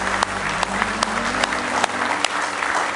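An audience at a camp meeting claps together in sustained applause of praise, a dense wash of hand claps with a few sharper individual claps standing out, continuing steadily for the whole stretch.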